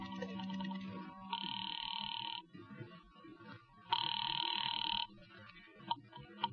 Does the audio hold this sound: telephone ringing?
yes